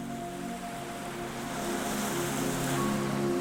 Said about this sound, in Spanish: La marea está tranquila. Las olas llegan con delicadeza y se retiran sin prisa.